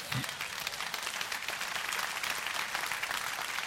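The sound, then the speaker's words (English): Steady, dense applause from a sizable crowd, a continuous crackling wash of many hands clapping at an even loudness throughout, with a brief low voice near the start. “I'm not clapping right now because you said primary.”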